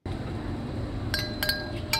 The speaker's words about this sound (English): The ring is simple, familiar, pleasant. These bells look and sound just like wind chimes, but they're not controlled by the wind at all. This is Mutual Air, a sound installation in the Bay Area that measures air pollution.